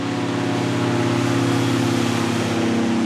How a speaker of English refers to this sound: Next, an airboat comes buzzing down the river, carrying a strike team of Border Patrol agents. And they're heavily armed.